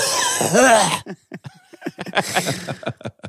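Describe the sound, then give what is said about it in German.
A loud, drawn-out, exaggerated cough, deliberately performed, followed by a string of short, choppy vocal bursts like chuckling or quick murmured talk. “Und dann auch so husten.”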